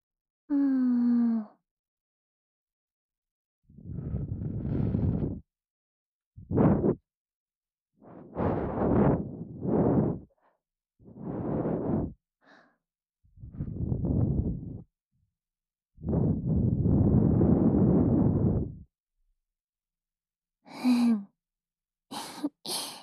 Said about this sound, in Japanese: どうですか？こういうの。生ぬるい吐息をお耳の深いところまで送り届けて、結構気持ちいいと思いませんか？